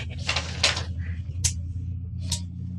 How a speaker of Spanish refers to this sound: 2 fulgores de flashes surgen, juntamente con el clic característico de un obturador. Wanda ha fotografiado el plano del Dr. Bailey.